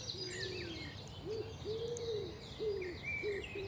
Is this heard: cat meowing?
no